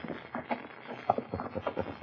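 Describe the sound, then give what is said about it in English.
Steady clip-clop of horses' hooves as riders approach, a quick uneven rhythm of hoofbeats at moderate volume, sounding like several horses trotting, with no voices over them. “Ah, he hear horses.”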